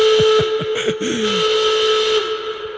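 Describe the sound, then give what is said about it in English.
An alarm goes off, a loud, steady shrill whistle-like tone over a hissing wash, with several quick falling chirps early on before the tone holds and fades slightly. No one speaks. “The alarm went off and the question went out.”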